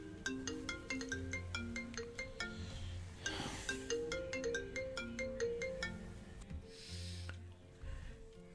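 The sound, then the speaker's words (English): A phone's electronic ringtone for an incoming call plays a bright, bouncy melody over and over, steady and fairly loud throughout, with a couple of brief bursts of rustling noise and no one talking. “I got a phone call, and when I returned to, I had put the recording on hold,”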